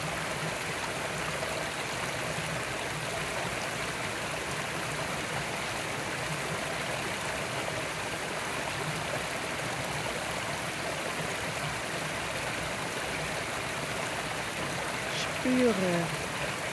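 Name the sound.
babbling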